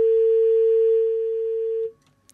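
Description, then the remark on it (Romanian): A steady, loud telephone tone from a radio station's call to a listener drones at one pitch for about two seconds, then cuts off abruptly, leaving faint clicks and near silence, as the call fails to connect. “Se pare, estimați ascultători, că nu am reușit să preluăm nici acest apel telefonic.”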